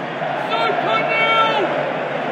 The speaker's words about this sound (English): There's the crowd turning. Shame.